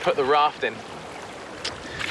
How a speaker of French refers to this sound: avons sauté en bateau. Le courant commence à être plus fort.